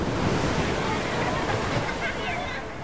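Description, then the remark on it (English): Loud, churning ocean surf roars steadily throughout, with indistinct human sounds, like struggling breaths or muffled cries, partly buried in the rushing water, as a person drowns after a rip current swept them out to sea. “What you are about to hear is the sound of me drowning.”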